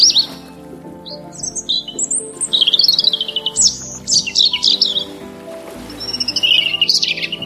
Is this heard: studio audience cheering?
no